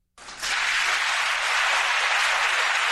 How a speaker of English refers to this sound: And I want you to listen to the Democrats in the audience cheering Bernie Sanders.